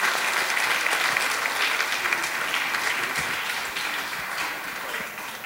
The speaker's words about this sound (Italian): Grazie, e salutando voi saluto l'ideatore, il fondatore, il presidente di Rondine, Franco Vaccari, che ho visto è qui tra noi, che salutiamo con un applauso, questo lo salutiamo tutti insieme.